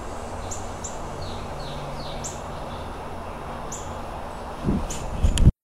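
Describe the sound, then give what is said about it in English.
Birds, including a woodpecker, Carolina wrens and a cardinal, chirp in short, high, scattered calls over a steady outdoor hiss, with a few louder rustling thumps near the end. “Actually, I did learn from this book how you're supposed to walk when you're around birds to be non-threatening, and I seem to have achieved that.”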